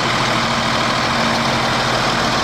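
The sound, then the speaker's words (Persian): Heavy military vehicle engines idle in a steady, unbroken rumble with a low droning hum and broad rushing noise, as American vehicles block Russian vehicles on a road near the border with Iraq; no voices or other sounds stand out. “چند خودروی آمریکایی در جاده‌ای در نزدیکی مرز با عراق راه خودروهای روسیه را مسدود کردند.”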